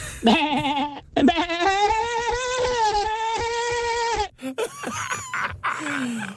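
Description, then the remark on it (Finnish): A performer on a karaoke stage vocally imitates a sheep, letting out a long, wavering bleat that holds steady for a few seconds, followed by shorter, strained vocal bursts. “Siinä lammas otti valla.”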